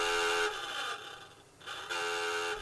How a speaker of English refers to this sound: But the most important alarm was the dive alarm.